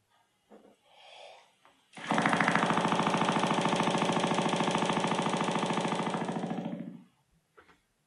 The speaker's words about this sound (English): the sub-contra bassoon shown here is the lowest woodwind instrument ever created, and this is one of the lowest notes capable